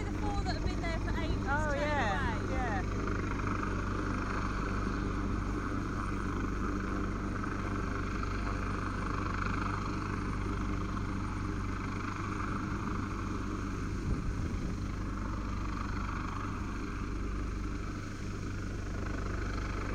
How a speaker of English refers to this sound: I don't think we're getting rescued in that helicopter. Of course, they'd only be able to get so many.